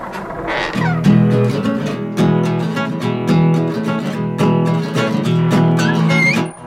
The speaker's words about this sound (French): Oui, c'est exact. Il y a quelqu'un qui joue la guitare.